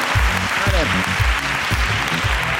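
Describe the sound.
Steady crowd applause fills the whole stretch, a dense wash of clapping, with voices talking and calling out over it close to the mic.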